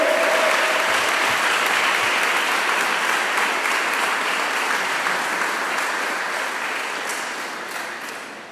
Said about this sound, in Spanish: Un aplauso al Rey. Un aplauso al Rey.